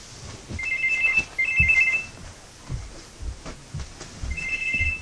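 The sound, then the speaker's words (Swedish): A mobile phone rings with a warbling electronic ringtone, two quick bursts, a pause, then a third burst, heard fairly clearly over a noisy room with low thumps and shuffling. “Stäng av mobilen.”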